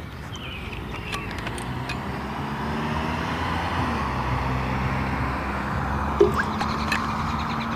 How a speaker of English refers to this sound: Let this car get out of the way.